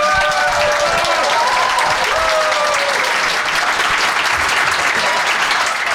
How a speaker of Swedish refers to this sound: Nej, men däremot har vi väldigt mikrofonen som tar upp väldigt nära här. Så att ni får gärna applådera väldigt högt så att det går in i mikrofonen.